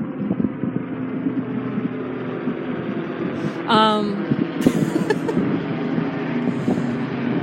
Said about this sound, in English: Yes, I got distracted by a helicopter.